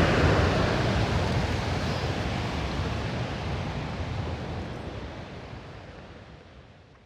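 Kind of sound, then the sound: nature, rushing waterfall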